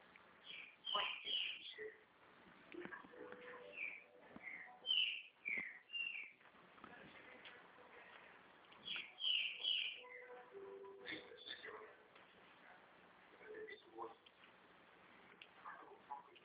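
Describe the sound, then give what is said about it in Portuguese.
A small bird sings steadily, trilling and chirping in quick bright bursts that repeat throughout, heard over a narrow, phone-like line with faint background noise. “Tem passarinho aí? A senhora gosta de pássaros? Canta, Sim. tá cantando bastante, né?”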